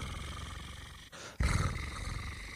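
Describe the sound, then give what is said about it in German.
A voice imitates a cat's purr with a low, rough, throaty rumble and a rolling R, fairly loud, breaking off briefly partway through before resuming more strongly, sounding somewhat like a dog's growl. “Dann mache ich das Schnurrgeräusch immer so so nach.”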